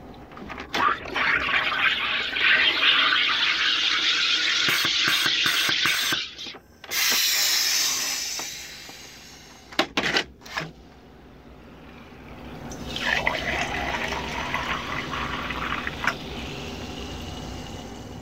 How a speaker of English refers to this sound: The sound you just heard is the sound of my dad's soda stream.